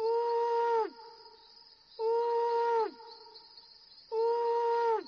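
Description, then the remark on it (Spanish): An owl hoots three times in a steady rhythm, each call a sustained mid-pitched tone with a slight downward slide at the end, separated by short pauses with no talking. “Sid dormía plácidamente, tanto que el búho tuvo que ulular 3 veces para despertarlo.”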